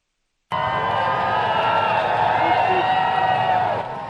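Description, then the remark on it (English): A large crowd in Berlin cheers loudly and steadily as Britain's monarch arrives on his first foreign trip, a dense wash of many voices shouting and whooping together, holding at full level for several seconds before easing slightly at the end. “A hearty cheer from the crowd as King Charles arrived in Berlin Wednesday for his first foreign trip as Britain's monarch.”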